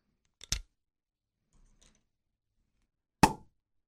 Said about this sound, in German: Deswegen würde ich aber auch mal sagen, ne, lass doch einfach mal den Korken knallen. Hoffentlich nicht zu sehr.